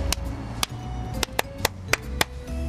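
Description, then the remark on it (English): Around seven sharp, crisp hand claps at an uneven rhythm, made by a person showing off clapping as a hidden talent, ringing out over a low, steady background hum with no one talking. “Yes, I'm very good at clapping.”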